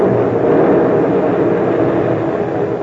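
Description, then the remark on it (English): A loud, steady roar of a plane from an escort vessel passing overhead as it drops a depth bomb on a submarine, thick with low rumbling noise that fills the whole few seconds without pause or voices. “He dropped a depth bomb right on that shop.”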